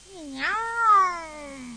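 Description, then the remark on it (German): A single drawn-out meow from Silvester the cat, at the toilet door, rising then sliding down in pitch with a talkative, almost speech-like inflection, heard on its own at moderate loudness. “Also, das hört sich an, als würde er richtig sprechen. Bloß, wir verstehen ihn nicht.”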